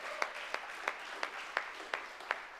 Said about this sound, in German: Ah, super, hier. Ah, perfekt, nochmal einen Applaus.